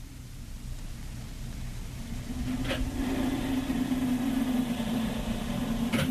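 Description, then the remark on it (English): Blizzard wind roars steadily outside the cabin of a small Northwest Mounted Police post, a dense rushing noise with a low droning hum that swells slightly partway through. Two brief sharp knocks cut in, and no one speaks. “Listen to that wind, will you?”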